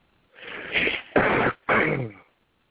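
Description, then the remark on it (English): A slightly muffled run of three rough coughs or throat-clearing bursts, the first longer and drawn out, the next two short and sharp with a brief pause between them. No talking. “Alright, I know I hear somebody coughing and breathing.”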